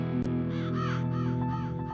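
A raven caws three times in a quick, evenly spaced series of hoarse calls, heard over a steady low humming tone, with a short sharp click just before.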